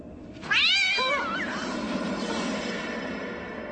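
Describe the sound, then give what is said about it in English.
A single loud, drawn-out cat meow rises and falls, then trails off into a steady background hiss with no talking. “It's just a cat.”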